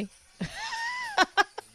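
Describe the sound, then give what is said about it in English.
A phone's ringtone sounds a single sustained electronic note with a slight wavering bend, lasting under a second, followed by a person speaking briefly in short bursts. “That's my phone.”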